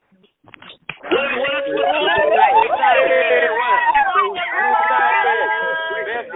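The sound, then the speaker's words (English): A loud, tinny jumble of many excited callers yelling and screaming into their phones at once as the lines are unmuted, high-pitched cries overlapping in a sustained wall of noise that bursts in after a moment of quiet. “And if you are, I want to hear you yell into the phone and scream into the phone as I unmute the lines right now.”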